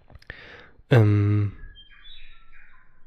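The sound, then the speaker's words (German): A loud, brief harmonic animal cry is followed by soft, high-pitched bird chirps trailing off in the background, with no one talking. “Der Affe nervt. Oder der Vogel, keine Ahnung.”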